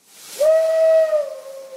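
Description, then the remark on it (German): A steam locomotive whistle sounds one sustained, steady tone that dips slightly as it fades, with a broad hiss of escaping steam underneath. Loud, no voices. “So hat es vor mehr als eineinhalb Jahrhunderten begonnen. Mit Dampflokomotiven, die ihre Energie aus Kohle bezogen, die sie während ihrer Fahrt verbrannten.”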